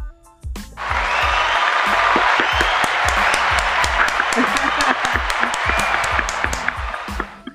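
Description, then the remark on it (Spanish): A burst of audience applause, many hands clapping in a dense, steady wash that holds loud for several seconds before tapering slightly at the end. “Y vamos a darnos un aplauso.”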